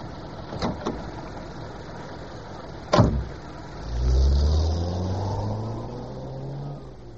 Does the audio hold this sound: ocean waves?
no